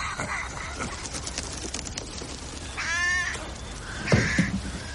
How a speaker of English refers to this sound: Your raven's back. Brought two friends with him. They're in the old yew tree. Something's going on. Calling a meeting, maybe.